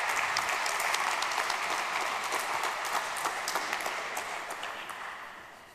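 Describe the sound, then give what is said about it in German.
An audience applauds steadily to welcome a speaker, a dense patter of many hands clapping at an even level before tapering off slightly toward the end. No one speaks over it. “Bitte gebt ihm einen Applaus.”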